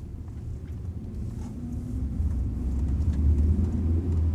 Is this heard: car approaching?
yes